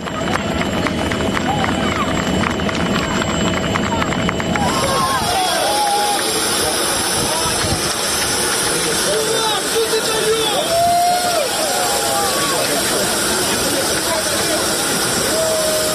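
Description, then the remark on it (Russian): A large, dense crowd at Boryspil airport cheers and calls out in a continuous loud roar, welcoming returning former political prisoners and prisoners of war, with many overlapping voices and excited shouts rising over the noise throughout. “Вот, собственно, так это было, да, и, ну, можно сказать, что на самом деле момент встречи, это самолет приземлялся, а вот момент встречи бывших политзаключенных и военнопленных в аэропорту.”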